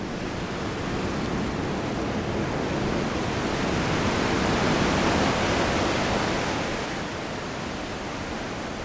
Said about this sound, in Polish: A to już piętrząca się w śluzach wody.